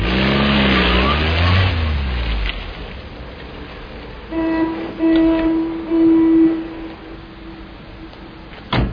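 A car engine revs loudly and pulls away, its pitch sweeping up and down before fading within a few seconds, followed by quieter background rumble and some steady droning tones.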